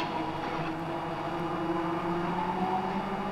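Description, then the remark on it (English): Tram car number 1893 pulls up at the bottom of Dog Kennel Hill under magnetic braking, a steady droning hum with a faint tonal whine held at an even level throughout, with no voices. “Car number 1893 pulling on a lovely piece of magnetic braking, just pulling up at the bottom of the hill.”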